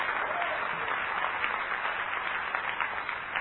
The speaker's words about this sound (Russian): Аллилуйя, подари Богу аплодисменты.